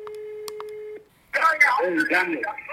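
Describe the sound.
A single steady electronic ringing tone from a phone call, lasting about a second, then a short pause before a person answers and starts speaking.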